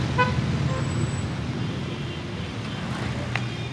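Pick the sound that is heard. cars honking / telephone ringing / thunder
cars honking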